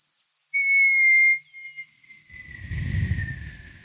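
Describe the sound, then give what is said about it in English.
A loud, sustained high-pitched whistle, heard near the edge of a city, holds steady, then slowly drifts lower in pitch as a deep rumbling boom swells beneath it near the end as the ground explodes with magical energy. No one speaks. “You get near the edge of the city and you hear like a whistle.”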